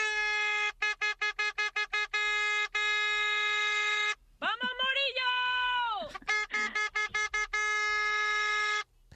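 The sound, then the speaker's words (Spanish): A loud vehicle horn honks in a rapid string of short blasts, holds one long blare, then breaks into another quick burst of toots after a brief voice-like passage in the middle. “Hombre, antes de que pusieras la voz, vamos, en cuanto escuchaba la bocina ya sabía que era, vamos, mi sister, como dice ella,”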